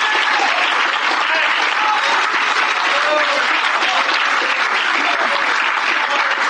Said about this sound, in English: Did that offend you? Well, the Bible said clap your hands. Sure does. Hallelujah.